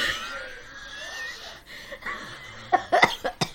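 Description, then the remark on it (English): A strained, breathy vocal sound trails off, then a quick burst of four or five sharp coughs follows in an uneven cluster near the end. “Okay, that cough was not supposed to happen.”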